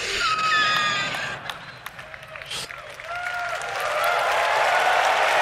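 An audience applauds steadily throughout the unveiling of a very big GPU named Blackwell, a dense wash of clapping that dips briefly midway and then swells again, with a few high whoops and whistle-like tones rising over it.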